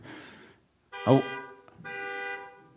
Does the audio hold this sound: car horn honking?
yes